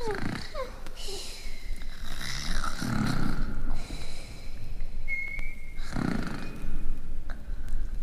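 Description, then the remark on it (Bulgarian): Two sleeping queens snore together in slow, rasping rounds, with two main deep snores a few seconds apart, mixed with wheezy breaths and a thin whistling tone in between. “Както хъркаха, изчезнаха и двете.”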